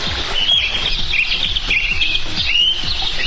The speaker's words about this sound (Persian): حومه طالقان در کنار جاده رستوران توت فرنگی، همان جا که جاده هایش خاکی است. دستهایی دور خانه های یک روستا دیوار کشیدند. پای کوهی بلند و کنار رودی روان، روستایی بی زمان، دور از همه آدم ها. هیچ صدایی نیست جز پرنده های خوشحال.